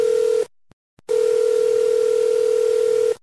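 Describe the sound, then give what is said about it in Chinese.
A steady telephone dial tone hums loudly, cutting off briefly after a short burst, then resuming for a long unbroken stretch over faint line hiss. “您拨打的电话已被崩，请稍后再拨。”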